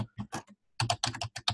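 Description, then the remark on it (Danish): Rapid keystrokes clatter on a computer keyboard as someone types a job title into a web form, a short burst of typing, then a brief pause before another quick flurry of clicks, fairly loud with no voices. “Og så skal jeg skrive her, at min stilling er HR-manager.”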